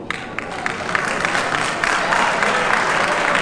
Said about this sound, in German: Applaus